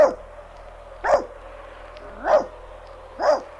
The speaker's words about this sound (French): Aboie, Nan. Aboie très fort.